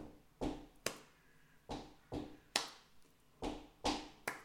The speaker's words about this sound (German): Also ich mache zum Beispiel Sachen, wo ich einmal mit dem Fuß auf oder zweimal mit dem Fuß auftreten und dann klatschen.